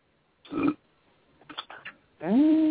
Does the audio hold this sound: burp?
yes